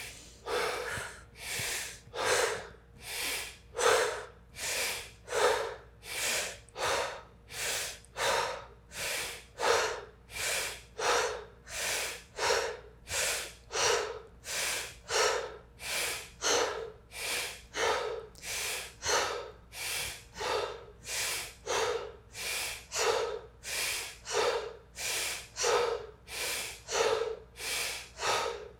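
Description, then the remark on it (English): Forceful, rhythmic deep breathing in and out, a set of 21 breaths, loud, each breath a sharp airy rush repeating steadily at a quick pace for the whole stretch, with no talking. “belly go out as we take that deep breath in.”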